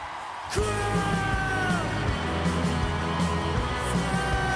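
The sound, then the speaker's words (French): A roaring concert crowd screams, whoops and sings along over loud amplified music, the sustained wall of cheering and chanting filling a large hall continuously from start to finish. “Et on vous emmène au beau milieu d'un public en folie quand cris, chants et applaudissements rivalisent avec les enceintes d'une salle de concert.”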